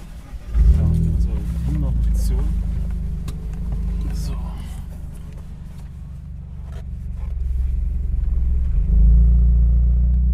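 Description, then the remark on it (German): A race car engine fires up as a 40-year-old hobby racing driver presses the start button at a race track, settling into a deep, loud idle rumble, its note swelling briefly midway and surging again with a revving push near the end as he drives slowly to the start. “Der Motor heult auf,”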